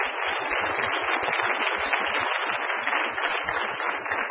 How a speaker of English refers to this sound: So please give him a round of applause for everything he does.